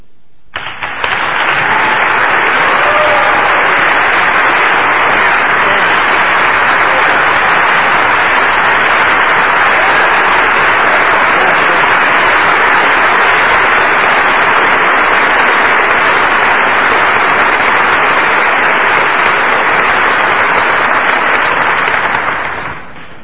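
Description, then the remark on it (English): Sustained audience applause for a speaker being introduced, a dense, steady wash of many hands clapping at an even, loud level for over twenty seconds, with no voices standing out. “With all that applause, I can hardly wait to hear what I've got to say.”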